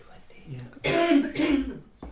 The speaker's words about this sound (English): if you could try and cough into a handkerchief, it would help because it'll be heard here.